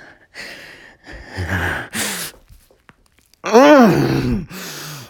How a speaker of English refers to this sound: Oh, those gasps!